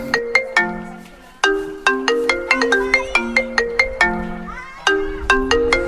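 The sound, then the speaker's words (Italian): A phone ringtone plays a bright, melodic electronic tune of quick plucked notes, repeating its phrase loudly with short pauses between bursts. “Spegni quel telefono!”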